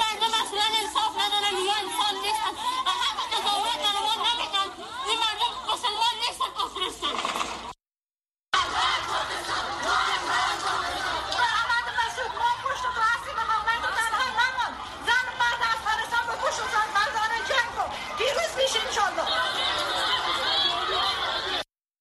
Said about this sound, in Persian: در یکی از این تجمعات ده ها زن در مقابل سفارت پاکستان واقع در کارت پروانه کابل مظاهره کرده و با سر دادن شعارهای ضد پاکستان خواستار پایان دخالت اسلام آباد در امور افغانستان شدند.